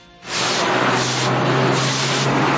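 A broom sweeping out rainwater that flooded improvised tents set up by at least 100 protesting community mothers in front of the ICBF on Avenida 68 in northern Bogotá, Colombia: a steady, loud wet swishing starts after a brief quiet moment and continues without pause, rising and falling slightly, with a low hum underneath.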